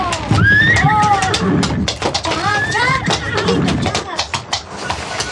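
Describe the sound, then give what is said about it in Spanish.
Frightened horses neigh in two shrill, wavering whinnies, one early and one midway, over a busy backdrop of clattering and shuffling, fairly loud. “Las bestias relinchan temerosas con la presencia de la extraña mujer.”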